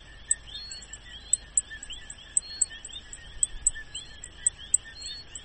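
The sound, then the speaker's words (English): Many frogs chirp together in a rainforest in Puerto Rico: a steady, dense chorus of overlapping calls, punctuated by repeated sharp, high-pitched chirps like tapping on glass from the endangered plains coqui, at an irregular pace. No one speaks. “You're about to hear a recording of a rainforest in Puerto Rico. Listen closely and try to count how many frogs you hear.”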